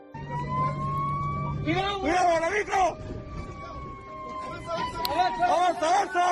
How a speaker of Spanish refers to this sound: ¿Escuchas el interior de un camión de bomberos en Chile? Justo en el momento en el que quedan atrapados por el fuego en una de las carreteras. Las llamas alcanzaron varios metros de altura, recorrieron rápidamente miles de hectáreas